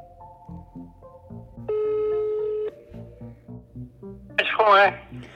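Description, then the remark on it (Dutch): Telephone dialing tones and a ringing signal as students phone a witness, including a steady, fairly loud tone lasting about a second, over a soft rhythmic background, ending with a brief burst of voice on the line. “Na een aantal mislukte pogingen krijgen de studenten alsnog getuige … aan de telefoon.”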